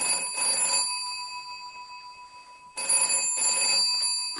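A telephone rings twice, each burst a bright, trilling electronic bell with a short pause between, clear and close with no voices.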